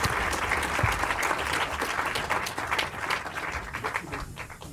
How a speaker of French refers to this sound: Je crois qu'on peut l'applaudir chaleureusement. Merci.